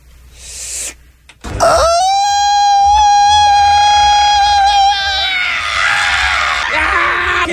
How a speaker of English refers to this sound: Let's hear you. Your longest Mexican scream. So the grito of Mexico. Ready, set, go.